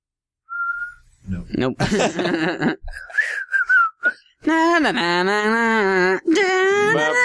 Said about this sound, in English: Can you whistle …?